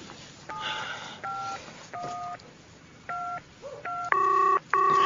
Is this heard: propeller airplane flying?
no